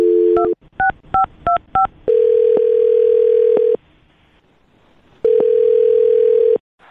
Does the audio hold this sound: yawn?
no